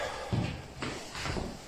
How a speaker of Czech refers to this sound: Otevřené dveře. Dobrý nápad, jo.